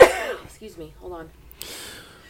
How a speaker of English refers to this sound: Excuse me. Hold on. I'm leaving it in. Bless you. Okay. Bless you, bless you.